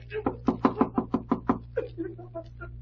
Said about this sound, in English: Well, guess it won't hurt to rap on the door. Yeah.